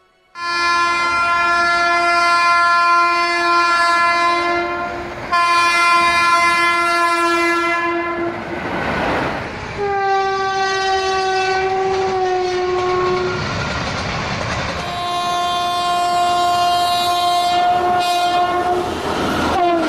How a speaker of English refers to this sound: The train. The mighty war cry of this creature strikes terror into the heart of every Pajit.